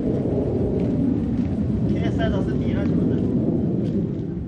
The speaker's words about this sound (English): As UN peacekeepers brought in bulldozers to help dig through the rubble yesterday, Israeli warplanes and unmanned spy drones continued to roar overhead.